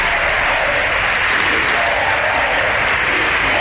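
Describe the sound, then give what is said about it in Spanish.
A loud, dense crowd roar from Podemos deputies in the parliament chamber chanting their usual "Sí se puede" and shouting at the close of the session, mixed with clapping, holding steady throughout with no single voice standing out. “También los gritos de los diputados de Podemos con su habitual «Sí se puede».”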